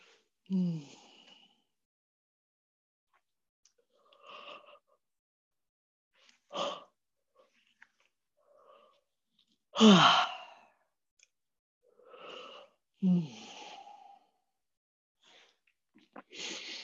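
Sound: person yawning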